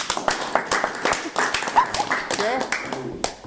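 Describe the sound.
A burst of audience applause: dense, irregular clapping from many hands at a steady loudness, with a few brief voices and cheers mixed in before it thins out at the end.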